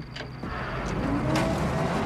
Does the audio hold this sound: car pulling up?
yes